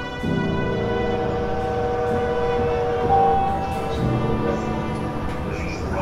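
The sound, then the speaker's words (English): The Venice Simplon Orient Express passenger train rolls steadily along the rails, a continuous loud rumble with a faint metallic whine and clatter underneath, uninterrupted for several seconds. “The Venice Simplon Orient Express has a powerful engine, perfect for anyone who wants to disappear or hide their deepest secrets.”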